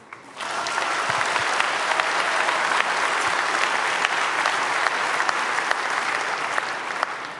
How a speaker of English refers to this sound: And so please welcome them with a huge round of applause, and let's go.